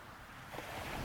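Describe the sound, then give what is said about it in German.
Ocean waves wash in and recede steadily, a broad soft hiss of water that swells slightly partway through, moderately quiet and continuous, with no voices. “Die Welle gleitet an deinem Körper entlang zum Kopf. Ausatmen. Die Welle zieht sich zurück.”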